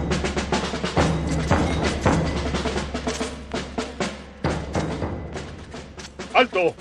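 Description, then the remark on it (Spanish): Rifle shots crack out again and again in a dense, rapid barrage, sharp and loud, with a brief shouted voice rising near the end. “Rifle en mano, se encaró a Cabrera y lo mató de un certero balazo en la frente.”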